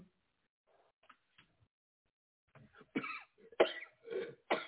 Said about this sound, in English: Mm-hmm. Cough it out. Go! Cough it out. Go! Go!